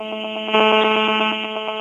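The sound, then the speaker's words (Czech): A phone gives off a continuous electronic beeping during a recording, a buzzy, harmonic-rich tone pulsing in quick, even bursts, growing a little louder midway before easing back. No one speaks. “Hrozně nám do toho houká ten telefon.”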